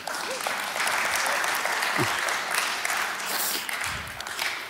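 Sustained audience applause, a dense wash of many hands clapping at steady loudness for several seconds, with faint voices briefly audible underneath.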